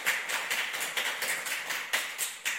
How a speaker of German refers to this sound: Wenn ich gleich danach meinen linken Arm heben werde, klatscht ihr auch alle laut drauf los, mit der Aufgabe, in einen gemeinsamen Rhythmus zu finden. Okay? Fangen wir mal an. Also, durcheinander und laut.